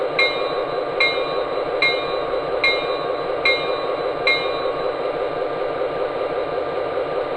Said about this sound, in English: Now arriving on track one from Chicago, train number 53, the city of Miami.